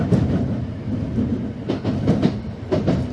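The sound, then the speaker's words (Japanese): A Keikyu train, next stopping at Yokohama, rolls steadily along the rails with a continuous low rumble, punctuated by several sharp clickety-clack bursts as the wheels cross rail joints. No one speaks. “京急関崎の次は横浜に止まります。”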